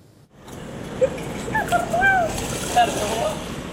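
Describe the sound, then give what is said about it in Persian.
A steady, broad rush of the Euphrates River flowing and lightly splashing from a canal through Raqqa, Syria, starting after a brief quiet moment, with a few faint high calls drifting over it. “آبی رودخانه فرات از نهر در این شهری یک زمان اشغال شده جاری است.”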